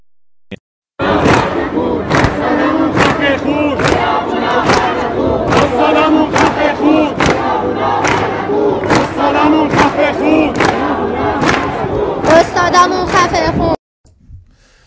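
A protest crowd chants loudly and steadily in unison, with sharp rhythmic accents at regular intervals, sustained for about thirteen seconds before cutting off abruptly.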